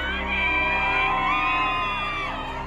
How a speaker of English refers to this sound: Outside the Virginia courthouse, Depp fans gather to cheer on their hero.